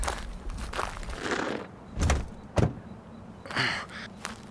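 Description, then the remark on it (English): Shuffling movement and footsteps as someone is helped into a car, followed by two solid car door thunks shutting, then more rustling and settling inside the vehicle. “Just shut up and help me get you into the car.”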